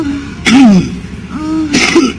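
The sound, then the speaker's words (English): A Russian homeless man hacks up phlegm while having sex, in two harsh, wet bursts about a second apart, each trailing into a throaty voiced groan, fairly loud. “He's coughing up phlegm as he's fucking her.”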